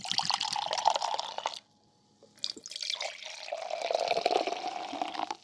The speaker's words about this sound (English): Here, I'll pour you some. Yeah, just a tiny bit.